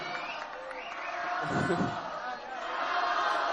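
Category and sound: crowd, crowd cheering and chanting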